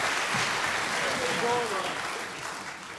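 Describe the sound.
A crowd applauds steadily, a dense wash of many hands clapping that holds strong for most of the stretch and eases off slightly near the end, with faint voices mixed underneath.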